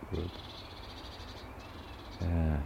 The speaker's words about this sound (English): Rare bird call.